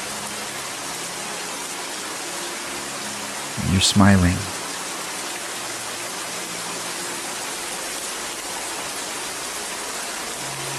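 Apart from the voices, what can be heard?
steady rainfall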